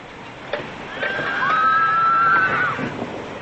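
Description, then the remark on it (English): A horse at a stable lets out one long, wavering whinny lasting a couple of seconds, clear, with faint clatter and rustling in the background. “What do you do at the stable? I exercise the horses.”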